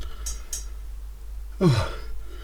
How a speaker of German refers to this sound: Ja, da war es auch wieder. Und dafür hätten wir jetzt eine Räusper-Taste gebraucht.